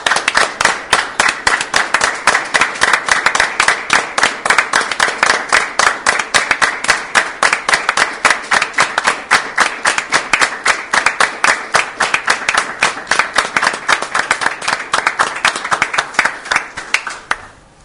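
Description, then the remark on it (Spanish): Sustained applause from a large audience standing in tribute to José Carvajal, 'el Zabalero', in place of a minute of silence, dense and steady with rapid overlapping claps, loud, with no talking over it before it fades at the end. “Y quisiera proponer no un minuto de silencio, sino que nos pongamos de pie y le tributemos un aplauso por todo lo que ha sido su labor.”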